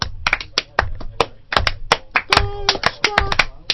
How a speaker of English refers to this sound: Now they deserve slow clap. Yes, they do.